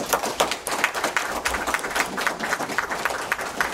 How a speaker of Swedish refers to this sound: Tack för era svar, en applåd.